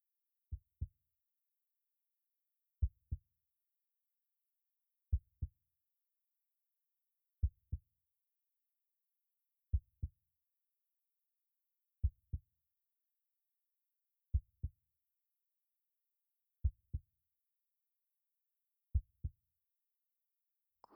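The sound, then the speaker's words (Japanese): A muffled heartbeat, heard up close while hugging someone, thumps in steady lub-dub pairs, deep and soft, repeating about every two seconds with nothing else around it. “なんだかドキドキしますね。そのうち先輩のも聞かせてください。”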